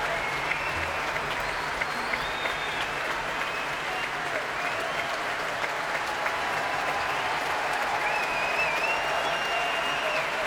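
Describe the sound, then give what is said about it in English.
Sustained applause from a large concert audience as a performer comes back onto the stage, a steady dense wash of clapping at even loudness with faint cheers or whistles rising above it here and there. “Keith Lockhart coming back onto the stage now to take more applause.”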